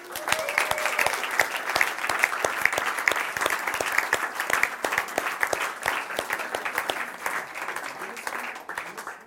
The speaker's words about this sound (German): Ihr Lieben, unser Gottesdienst ist zu Ende. Lasst uns Jesus mal einen Applaus geben.